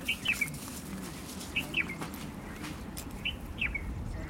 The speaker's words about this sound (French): Cet oiseau, c'est un bouleboule. Bouleboule. Alors, on va écouter de bouleboule deux secondes.